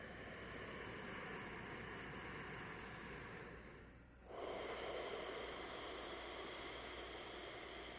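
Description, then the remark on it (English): Long, deep breaths with a rushing, hissy texture like ocean surf: a sustained exhale, a brief pause around four seconds, then another steady breath, with no talking. “Which becomes very much like the sound of the ocean.”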